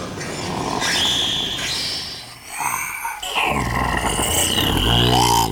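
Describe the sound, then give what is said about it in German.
A loud lion roar rumbles for several seconds, rising and surging, blended with whooshing, shimmering sweeps that sound like a magical transformation effect. “Aber sag mir, kannst du dich auch in einen Löwen verzaubern? Miau. Das ist auch nichts, liebes Kätzchen. Siehst du? Ein Löwe.”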